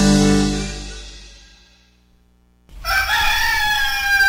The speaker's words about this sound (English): Yeah, the old rooster's crowing this morning. By gum, wonder what's the matter with him.